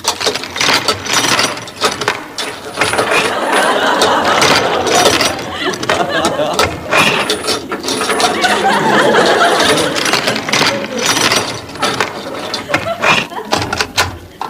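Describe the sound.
A lock rattles and clicks through a run of ratcheting mechanical turns before a door is pulled open, steady and fairly loud throughout, with muffled voices underneath.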